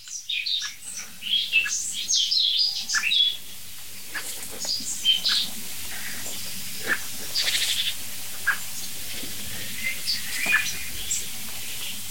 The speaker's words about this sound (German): Es nervt im Augenblick wirklich nur die Amsel, wirklich. Und die Meise mal ganz kurz zwischendurch.